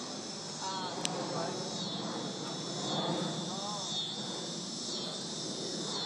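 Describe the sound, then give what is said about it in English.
A steady, high-pitched cicada drone hums without a break through the whole stretch, with faint voices murmuring underneath. “Those cicadas.”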